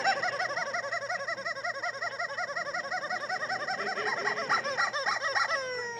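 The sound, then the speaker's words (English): A squawking toy chicken cackles in rapid, rhythmic bursts for several seconds, loud with no talking, ending in a few rising, stretched squeals. “And she threatened to take my chicken and throw it away and cut it up, and she got violent, I'm telling y'all.”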